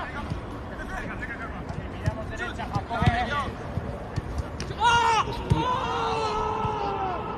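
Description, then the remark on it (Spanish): Footballer Camavinga screams in pain after Tchouaméni accidentally steps on his ankle in training at the National Stadium in Warsaw: a few strained, high-pitched cries rise over a steady murmur of crowd noise and scattered thuds, then taper into drawn-out groans. “Estos son los gritos de Camavinga.”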